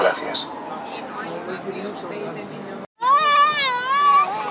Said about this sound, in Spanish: Bueno. Niños chillando